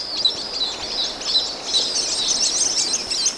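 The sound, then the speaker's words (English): A flock of white-collared swifts, huge swifts the size of small falcons, calls in a dense, continuous chorus of high, overlapping chirps and twitters as they fly toward a small waterfall in southern Mexico at sunset, steady and fairly loud throughout with no voices. “It's a flight of white-colored swifts, huge swifts the size of small falcons, winging toward the waterfall.”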